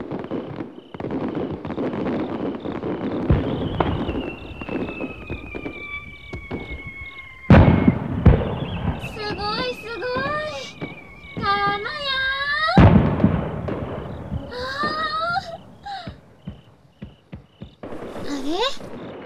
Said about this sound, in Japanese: 今度は向こうでも上がりましたえ。連発花火。